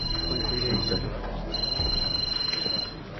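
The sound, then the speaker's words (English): A telephone rings in two bright, trilling bursts separated by a short pause, clear over a low, busy background rumble. “That right now you were thinking about me, and out of the blue your phone rings, and it's me, huh?”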